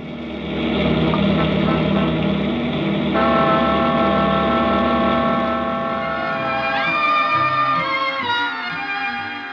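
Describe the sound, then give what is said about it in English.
A cross-country motor bus, oil checked and tank full, idles ready to start with a steady, loud droning hum that shifts in tone partway through, then rises and falls as if revving. No one speaks. “the cross-country motor bus stands waiting. The oil is checked, the tank is full, and we're ready to start”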